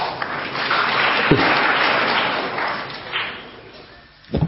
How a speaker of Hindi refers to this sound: है ना, है ना, है ना, ले ताली ले मजा।